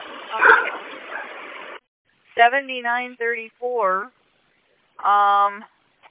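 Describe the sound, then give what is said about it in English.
Service dogs on a bus bark in a few quick, high-pitched yipping bursts, then a short pause and one last drawn-out bark. A noisy rumble comes just before them. “What are off dogs parking on the bus?”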